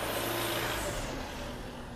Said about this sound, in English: The UPS truck is following me, y'all.